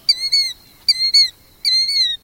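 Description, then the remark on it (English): A killdeer, a plover, calls three times in flight, each a shrill, high two-note cry with a slight downward slur, repeated at a steady pace with short pauses, loud and clear with no voices. “As for that odd name, well, listen to its song as it takes flight.”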